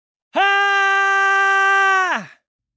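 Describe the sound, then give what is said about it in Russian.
A woman lets out a single loud, piercing scream, held steady for nearly two seconds before dropping sharply in pitch and cutting off, alone with no talking. “он услышал женский крик. Он был настолько громким и пронзительным, что захотелось закрыть уши.”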